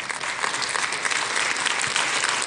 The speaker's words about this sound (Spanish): Todos los que han venido por primera vez, ¿verdad que sí? Démosles un aplauso.